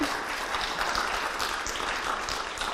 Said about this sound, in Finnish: Olisiko vielä aplodien paikka uudestaan puhujalle?